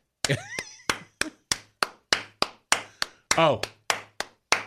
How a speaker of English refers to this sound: You had the guy who clapped on the offbeat. The offbeat. Oh, yeah. Every church has that.